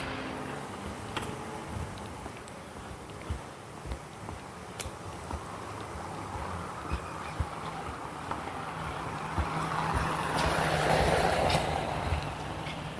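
A car, the sixth to pass, drives by outdoors, its broad road rumble building steadily and peaking near the end as it passes, with no voices.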